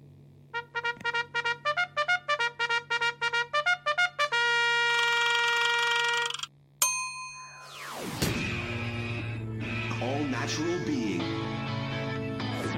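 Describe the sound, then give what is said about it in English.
A quick run of bright, pulsing chime tones and a held note lead into one loud gong strike that crashes and then rings on with a long, shimmering decay. “Well, that's certainly a passionate gong tonight.”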